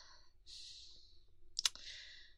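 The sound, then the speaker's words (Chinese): A soft rustle of fabric as keys are fished out of a pocket, with a quick bright metallic jingle near the end, close by and fairly quiet. No one speaks. “听话，听话，掏钥匙呢？”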